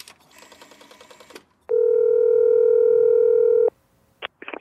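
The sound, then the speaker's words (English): A loud, steady telephone dial tone hums unbroken for about two seconds, preceded by a softer buzzing line noise and followed by a couple of quick beeps as a number is dialed. “I know someone who can help. Get the phone.”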